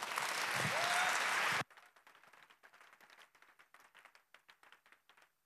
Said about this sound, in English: He knows much more about this than me, so please give him a warm applause.